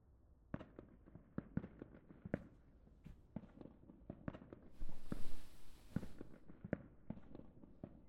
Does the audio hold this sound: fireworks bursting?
yes